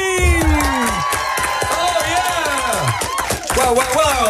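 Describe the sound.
A studio crowd cheers, whoops and shouts loudly and continuously, many excited voices rising and falling together with high-pitched yells cutting through the din.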